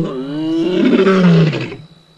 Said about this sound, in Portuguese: O urro do leão é emocionante. Ele vem na direção do nosso carro. O rugido selvagem é apenas uma forma de comunicação com outros leões que estão na área.